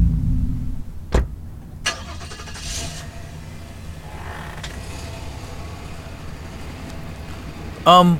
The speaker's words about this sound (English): Who was that? You don't know anyone who drives an old... What was that, a Datsun?